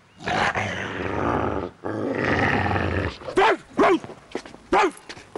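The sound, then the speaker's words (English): A Doberman growls deeply and steadily for a few seconds, pauses, then lets out three sharp, loud barks in quick succession, with no talking. “Tony looks amused, steps away, and patrols the grounds with his Doberman.”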